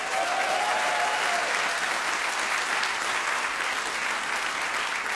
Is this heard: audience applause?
yes